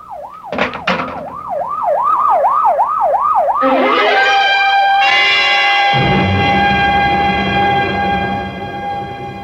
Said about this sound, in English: Oh, better get that ambulance out here fast. Professor may still have a chance. Here it comes now, Lieutenant.